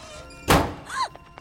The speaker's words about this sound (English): The wardrobe door slams behind her.